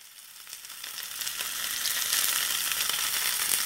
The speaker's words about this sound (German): Ständig geschieht es in unseren Küchen. Ein Schnitzel, ein Fischfilet, eine Frikadelle wandert in die Pfanne und wird gebraten, mehr oder weniger heiß, mit einem mehr oder weniger teuren Öl.